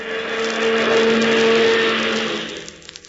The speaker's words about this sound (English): Watch out, Zero. The chauffeur is driving one of Hubert's cars out. Gee, it's one of them big, long cars of Hubert's.